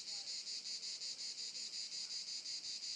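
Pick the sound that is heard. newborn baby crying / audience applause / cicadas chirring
cicadas chirring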